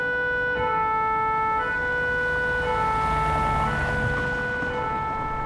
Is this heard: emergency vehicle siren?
yes